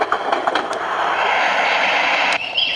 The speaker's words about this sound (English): This guy's really neat. This is aromatherapy stereo machine from Radio Shack. And listen, one of them is Train Wheels.